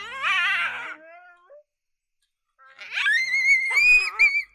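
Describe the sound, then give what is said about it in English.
Coyote vocalizations from a BFA predator call file (CSD call, shoot, drag series), meant to draw a territorial response: a loud, quavering high-pitched howl lasting about a second, a pause, then a rising, wavering howl broken by sharp yips. No one speaks. “CSD files are designed to introduce trespassing coyotes on turf they do not belong on.”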